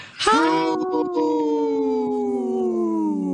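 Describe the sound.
A person imitates a wolf howl: one sustained, loud vocal tone that rises sharply at the start, then holds and slowly glides downward for about three seconds.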